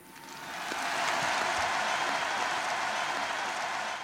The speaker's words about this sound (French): Pour que le feu ne s'éteigne pas, je vous propose, où que vous soyez, qui que vous soyez, pour lui dire merci, pour qu'il ne meure jamais, d'applaudir